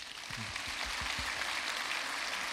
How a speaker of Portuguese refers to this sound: Então, uma salva de palmas.